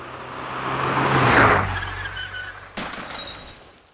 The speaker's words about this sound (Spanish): Un hombre ha tenido un accidente con su coche y se ha chocado contra un árbol.